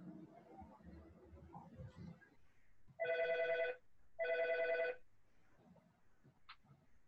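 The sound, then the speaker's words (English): A telephone rings twice in loud, even bursts, each lasting under a second with a short pause between, while muffled voices murmur faintly before and after. “Oh, now the phone's ringing.”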